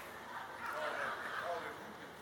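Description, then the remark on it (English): A preacher lets out a loud, rough barking shout, imitating a 'Baptist bark' style of preaching: a harsh vocal burst held for about a second, alone without other sounds. “I call it the Baptist bark.”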